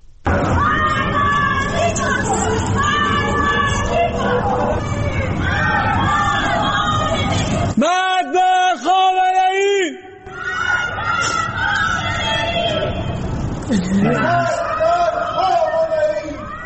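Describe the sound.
Many voices shout and chant together in a loud, continuous roar of overlapping calls, with a brief clearer rhythmic chant standing out in the middle before the crowd noise swells again. Citizens in the Narmak district of Tehran chant slogans against the leader of the Islamic Republic from their homes on Tuesday evening.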